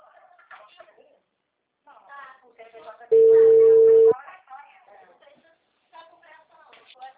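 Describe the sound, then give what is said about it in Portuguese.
A loud, steady telephone line tone sounds once for about a second as a phone call drops because the phone's battery ran out; a man's voice talks before and after it. “a ligação caiu.”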